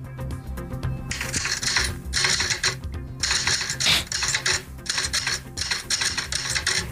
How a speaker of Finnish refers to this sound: No niin, mikäs se oli? Kyllä on naputettu tuota. Niin, kirjoituskoneet.